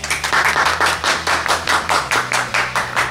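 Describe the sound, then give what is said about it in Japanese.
A small group claps in a steady, rhythmic pattern, about three beats per second, welcoming a representative of team NEXIS R from Nagaoka University of Technology, with sharp bright slaps that stay loud and even throughout. No one speaks over it. “イエイ、皆さん拍手。”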